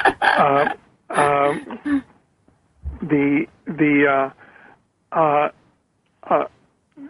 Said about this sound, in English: I can hear a dog in the background, so I know that I'm on target. His dog spelled backward is God.